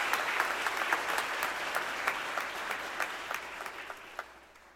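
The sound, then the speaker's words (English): A crowd applauds the school administrators and school staff of the class of 2017, dense clapping with sharp individual claps standing out, gradually thinning and fading toward the end. “Can we hear it for our administrators and our school staff?”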